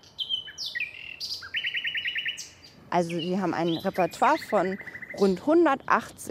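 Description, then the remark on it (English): Male nightingales sing clearly in Berlin's Tiergarten Park for about three seconds, mixing high whistles with fast rapid-fire trills, before a man starts talking over the fading birdsong. “Male nightingales have recently returned from Africa and are singing at full pitch.”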